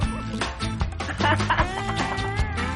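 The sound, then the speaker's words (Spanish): Loud duck quacking, a steady run of nasal, overlapping calls that fills the whole moment with no pauses and no talking. “Pero si es que aquí en este programa valemos para todo, valemos pato, para pato, todo. Pato.”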